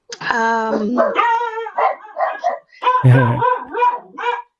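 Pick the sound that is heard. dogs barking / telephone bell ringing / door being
dogs barking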